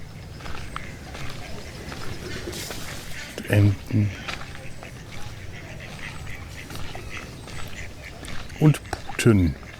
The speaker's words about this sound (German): Töse und Radau betrete ich jetzt das Geflügelgehege. Um mal mir von näherer Warte anzuschauen, wohin das Geschrei herkam. Das sind Truthühner.